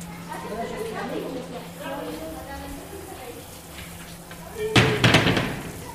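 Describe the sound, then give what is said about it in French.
Muffled voices murmur in a public baths with showers, then near the end doors bang shut loudly with a quick cluster of two or three heavy slams and rattles. “Vous entendez bien le bruit des portes, là.”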